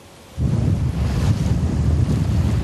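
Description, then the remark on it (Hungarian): Outdoor ambience on the shore of Lake Balaton, Hungary: after a brief quiet moment, a steady rush of wind and lapping waves rises abruptly and continues loud, with low blustery rumble and no voices. “Homokvárat épít a Balaton partján”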